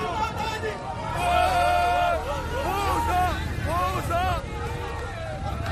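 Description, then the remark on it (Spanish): A crowd of migrant men who have just crossed the border fence into Spain shout and cheer with joy, many voices overlapping in loud, rising and falling whoops over a steady rumble of noise. “El drama de la inmigración se esconde detrás de esos gritos de alegría.”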